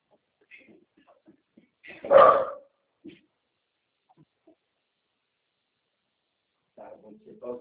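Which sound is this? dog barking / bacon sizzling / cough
dog barking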